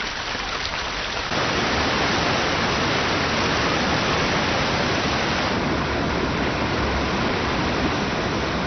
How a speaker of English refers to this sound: As 6 months of snow and ice begins to melt, Yellowstone starts to come back to life. cascading snowmelt swells the streams and rivers.